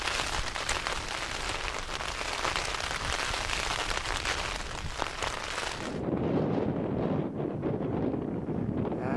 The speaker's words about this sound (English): I feel like I'm a weatherman out trying to get photos of the hurricane coming in for viewers back home, but this wind is quite impressive. The rain's died down.